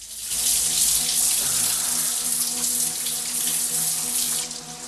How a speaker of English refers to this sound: Danko luxuriates in the shower.